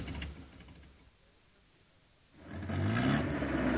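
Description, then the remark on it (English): A car engine in Burlingame rumbles low and fades almost to quiet as the car stops to drop off a passenger with the engine kept running, then rises into a louder, revving drone as the vehicle accelerates and drives off, with no voices. “Okay, drop me here. And keep the engine running.”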